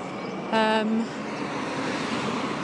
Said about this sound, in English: So now, of course, there's loads of cars behind the tractor.